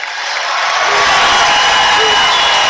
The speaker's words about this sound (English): Everybody's shouting.